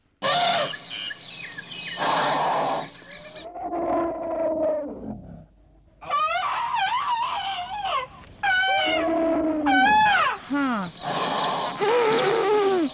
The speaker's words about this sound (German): Ich habe Elefantengeräusche mitgebracht von asiatischen Elefanten und von afrikanischen.